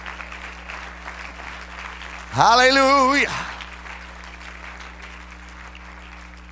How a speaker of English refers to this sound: Hallelujah, hallelujah, hallelujah. Praise God. Let's clap our hands into him and bless his name.